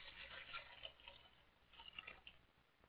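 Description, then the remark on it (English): Water is poured into a basin, trickling and splashing softly: a steady thin pour with small irregular drips and plinks, fairly quiet, with no voices. “Takes off his garments and is pouring water into a basin.”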